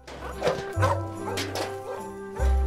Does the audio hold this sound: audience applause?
no